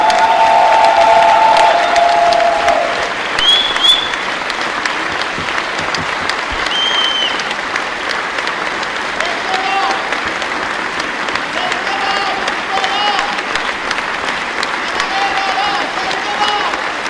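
Sustained, dense, thunderous applause from the audience at the Cannes Film Festival premiere of Iranian director Mohammad Rasoulof's film The Seed of the Sacred Fig, a steady roar of clapping with occasional cheers and whistles rising above it, loud and unbroken throughout.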